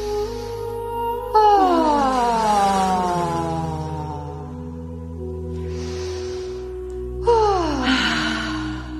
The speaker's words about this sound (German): solange du kannst, ausatmen. So richtig mit Ton gerne.